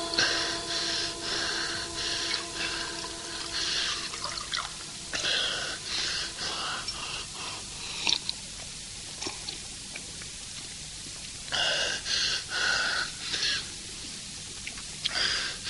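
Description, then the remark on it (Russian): Someone in a hospital gulps water in hurried swallows, broken by raspy, gasping breaths, with short pauses between bursts of drinking. “Пить, пить, дайте пить. Воды.”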